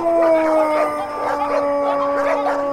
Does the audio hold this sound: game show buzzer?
no